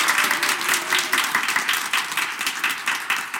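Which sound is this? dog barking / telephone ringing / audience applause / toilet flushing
audience applause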